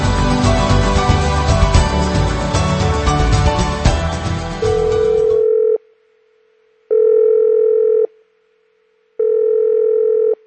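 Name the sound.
telephone ringing at night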